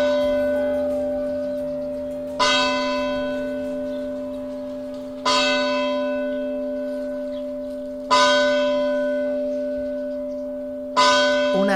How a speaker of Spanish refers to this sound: Una campana, ¿verdad? Dando unas señales horarias, pero con pajaritos de fondo, con silencio en el entorno. Estamos hablando de un santuario que se ha convertido en uno de los epicentros de la vida de Murcia capital, el santuario de la Fuensanta.